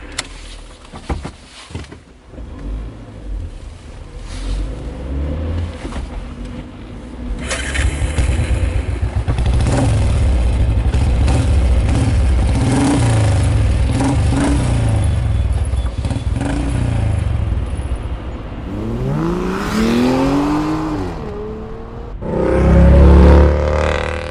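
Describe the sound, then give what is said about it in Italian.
A car engine cranks and catches, then idles roughly before revving up several times with rising, sweeping pitch, loud, with a final burst of revving at the end. “Vieni, sali in macchina. Ti va di guidare o preferisci che guidi io?”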